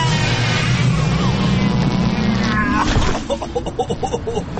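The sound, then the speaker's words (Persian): A loud mechanical drone from a machine being started up, with a steady low hum and rising whirring tones, shifting after about three seconds into softer sputtering pulses. No voices. “آرتا جا ماشینو به کار بنداز که من میترسم دوباره کار دستم بدن اینجا.”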